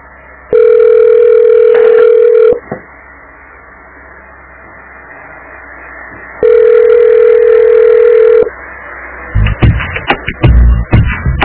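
A telephone ringback tone sounds twice in steady two-second bursts separated by a long pause, going unanswered, followed by faint clicks and handling noise over a quiet line.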